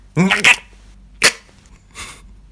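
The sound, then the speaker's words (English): A voice imitates the harsh hacking cough of people in Asia, likened to a cat being sick: a strained, raspy burst followed by two shorter rough hacks, loud, with no talking over it. “No one goes like, I need to cough, excuse me. They all go... Like a cat being sick.”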